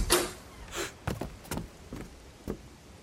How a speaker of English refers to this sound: Begrudgingly, he geared up for the rain and opened his front door.